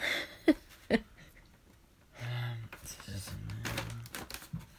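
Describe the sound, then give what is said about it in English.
Scissors cut through paper with two crisp snips, followed by softer rustling and crunching cuts while a low voice murmurs in the background. “Let's let you hear the sound effects of the paper being cut.”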